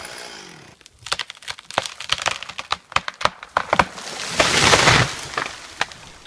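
A pine tree, felled by a wildfire crew training in tree felling and estimated at close to a century old, with half its needles faded yellow from drought, cracks with a rapid, irregular series of sharp, loud snaps, then gives way to a surging, rushing crash as it falls, fading into quieter rustling. No one speaks.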